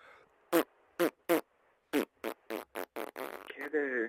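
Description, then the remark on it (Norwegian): A caller farts down a phone line: a string of about ten short, punchy fart sounds, spaced out at first and then quickening, ending in a longer, wavering, higher-pitched squeaky toot. No talking. “Hei du, jeg ringte bare for at du skulle høre meg fjerte litt.”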